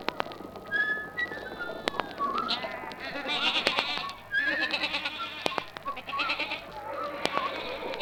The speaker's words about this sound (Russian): Иоганн возвращался домой и гнал перед собой стадо овец